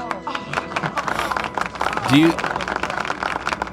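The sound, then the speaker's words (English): Steady, dense applause of many hands clapping fills the whole stretch, a continuous crackling patter, with a person's voice briefly rising over it partway through. “You can talk over the applause”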